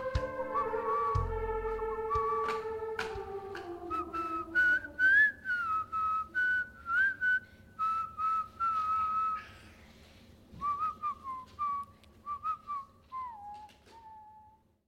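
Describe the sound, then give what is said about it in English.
A person whistles a simple melody, the clear pitched notes rising and falling in short phrases with brief breaths between them, and no talking. “And so now I'm making sure that these guys learn how to whistle.”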